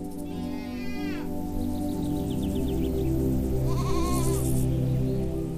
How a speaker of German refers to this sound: Er führt dich bergauf, vorbei an einem Holzverschlag, aus dem dir einige Ziegen entgegenkommen und dich neugierig anmeckern.